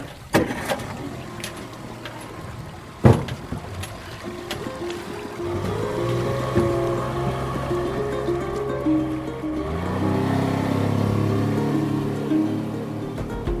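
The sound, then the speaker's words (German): A motorboat engine starts up after a couple of sharp knocks, then settles into a steady droning hum that grows louder and rougher over rushing water as the boat carries an underwater archaeologist and his 13-year-old nephew, with no one talking. “Er hat Bela gerade mit dem Motorboot von der Schule abgeholt”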